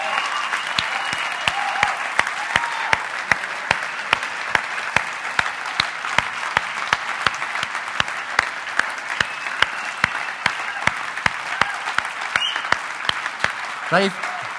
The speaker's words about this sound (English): In fact, the Impactors students we've got now should be here tonight. Could you stand up wherever you are? Or you could just stand. Can we just applaud these guys? This year, they've done an incredible job.